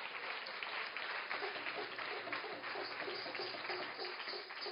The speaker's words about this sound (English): That round of applause. I know.